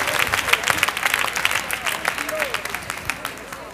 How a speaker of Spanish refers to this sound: Denle al Señor un aplauso.